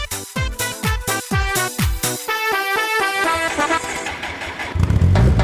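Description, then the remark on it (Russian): A car horn plays a quick melodic tune as the car drives through the city, a string of short rhythmic honks followed by longer sustained tones, loud, ending as engine rumble rises underneath. “Каждой девочке мастевой на клаксоне я, как бы между прочим, исполняю.”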